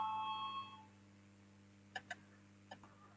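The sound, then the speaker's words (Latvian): A parliamentary voting bell rings as a steady electronic tone for under a second, calling deputies to vote on a proposal, then cuts off, leaving quiet with a few soft clicks and knocks; no one speaks. “Lūdzu, zvanu, balsosim par otro deputātes Ikstenas iesniegto priekšlikumu.”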